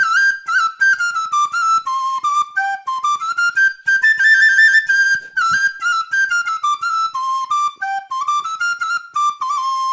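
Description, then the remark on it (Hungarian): A classic recorder (block flute) plays a lively solo melody of high, pure, slightly breathy notes that step up and down in quick phrases, sounding steadily throughout with no voices. “Itt van például, hogy az előbb egy klasszikus blokkflöjte furuját hallottunk,”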